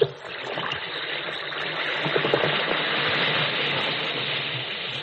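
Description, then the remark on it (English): An Alka-Seltzer tablet fizzes in water, a steady, dense hiss speckled with tiny crackling pops that holds at an even level for about five seconds, with no voices. “Listen to it fizz.”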